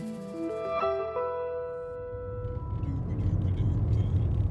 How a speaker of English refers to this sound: are in the car. We're driving from the capital, Columbia, to Greenwood.